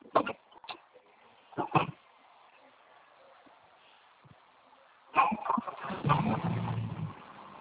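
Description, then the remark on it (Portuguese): The speaker's own dog barks a few sharp times at the start through a narrow, phone-like channel, then goes quiet before louder, muffled noise and rustling fill the last seconds. “Meu cachorro.”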